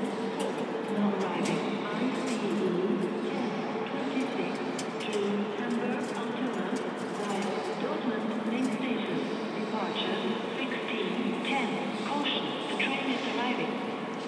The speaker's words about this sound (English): Caution, the train is arriving. Excellent. That is good news.